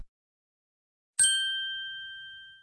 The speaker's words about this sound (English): The bell is ringing. Game over.